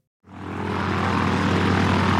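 A steady airplane engine drones in flight, starting abruptly after a brief silence and holding a continuous, loud, low hum with no voices present.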